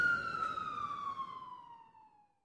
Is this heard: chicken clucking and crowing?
no